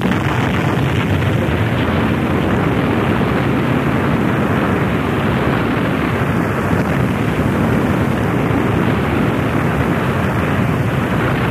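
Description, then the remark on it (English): A huge explosion sound effect: a loud, continuous rumbling roar that stays thick and steady for about twelve seconds, with no speech over it. “The explosion ripped through the city with a force of billions of megatons, disintegrating all in its path.”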